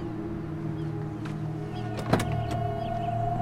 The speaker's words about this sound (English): She gets in and drives away, leaving Bennett standing by another car.